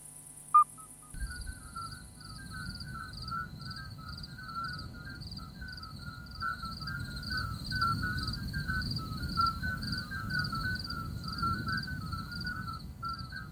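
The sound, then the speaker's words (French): A chorus of midwife toads gives short, pure, high-pitched whistling notes, repeating steadily and overlapping throughout, over a low continuous rumble. A brief click sounds near the start. “Ah, j'ai presque envie de vous passer le concerto en mi mineur pour crapaud accoucheur.”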